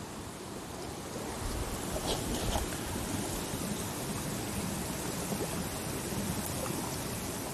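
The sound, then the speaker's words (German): Hot water bubbles and gushes up from rock in a steady, dense wash of watery noise, holding an even loudness throughout with no voices. “Warum blubbert das denn da so?”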